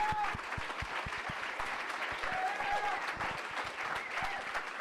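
A crowd applauds a speaker steadily, dense overlapping hand claps filling the whole stretch at an even, fairly loud level, with faint cheers or whistles rising briefly above the clapping.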